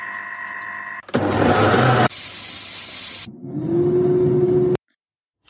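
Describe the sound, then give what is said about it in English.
A loud rush of steam hissing from an Instant Pot's quick pressure release, shifting after two seconds into a lower, rumbling whoosh with a faint steady hum, then cutting off abruptly. “So let's release the pressure on the Instant Pot because we're doing a quick pressure release.”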